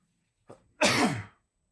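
One loud cough bursts out just after a quick sharp intake of breath, then quickly fades, with no talking around it.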